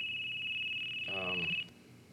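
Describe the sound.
A phone rings with a steady, high electronic tone that holds for over a second and then cuts off abruptly, with a brief burst of voice over the end of it.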